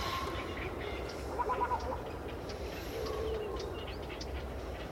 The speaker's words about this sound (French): Eh bien, chez la cigogne, elle claque du bec, on dit qu'elle craquette ou qu'elle claquette.